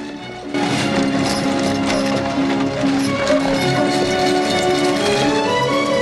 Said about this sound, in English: A carriage drawn by two horses rolls into town.